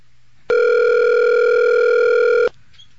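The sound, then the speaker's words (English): A single steady electronic ringback tone from an outgoing Vonage phone call that goes unanswered, sounding for about two seconds before cutting off, loud and clear with only faint background hiss around it. “Just ringing.”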